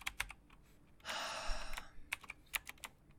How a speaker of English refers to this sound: All this typing is getting to my wrists.